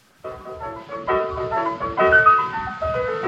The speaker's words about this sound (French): Et notamment donc cette chanson qui aura un certain succès, qui sera gravée en disque, cette … qu'on va entendre tout de suite. C'est un document vraiment de l'époque de la création